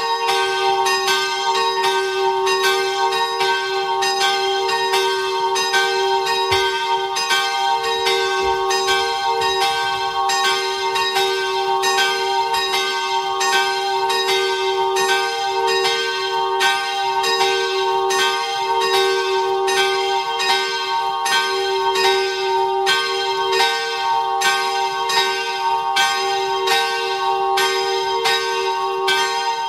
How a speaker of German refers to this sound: Es ist 12 Uhr. Sie hören die Glocken der Kirche Herz Maria in Bludenz in Vorarlberg.